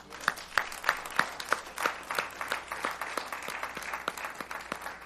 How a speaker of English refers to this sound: I was thinking this morning, we're not only excited for those graduating, but I want to give thanks and a round of applause for the parents behind those.